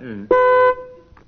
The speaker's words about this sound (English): Ready, teams? I'll use my buzzer to start you off.